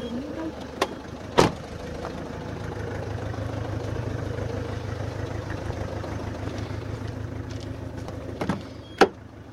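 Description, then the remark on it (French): A car engine hums and idles steadily, with a few sharp thumps like doors shutting at the start and end, and faint muffled voices now and then, as people get into the car to drive off together. “Comme vous voulez, on y va avec la voiture.”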